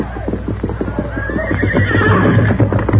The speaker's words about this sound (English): Doc Stevens, call your horse. Here's Silver. Come, scout.